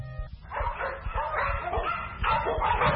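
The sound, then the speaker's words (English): Dogs in a pet shop bark and yip in quick, overlapping bursts, fairly loud, with excited high-pitched yelps running nonstop through the few seconds. “Here's the pet shop. They're buying a dog.”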